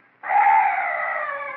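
A night bird lets out one long, harsh wailing call. It starts abruptly and holds a loud, strained, screech-like tone for over a second, with no voices.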